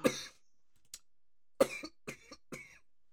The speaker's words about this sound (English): I'm truly dying. Apologies, guys. I've got a really terrible cough that I've had now for about 7 weeks. So apologies if you've had to listen to me.